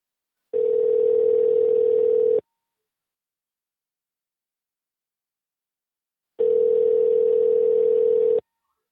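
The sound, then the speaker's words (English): Two steady, mid-pitched telephone ringing tones, each lasting about two seconds, separated by a long silent gap, like a call ringing out on the line. No one speaks. “Alright, let me try calling again.”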